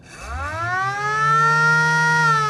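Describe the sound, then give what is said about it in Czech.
The siren of a 1955 Škoda 1200 ambulance, a museum exhibit first owned by the Prague emergency service, winds up, its pitch rising quickly before settling into a steady, loud wail, sounding alone for a couple of seconds. “Je to sanitka Škoda 1200 z roku 1955 a ten exponát je neuvěřitelný hlavně svojí historií, protože prvním majitelem byla záchranná služba hlavního města Prahy,”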